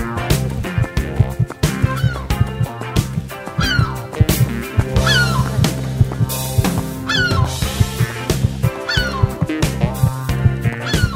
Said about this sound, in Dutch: Het lijkt net of we aan de kust zitten. Je hoort de meeuwen, hè? Ja, die komen ver landinwaarts.